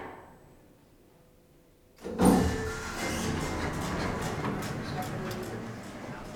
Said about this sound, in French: Deuxième étage. Ouverture des portes.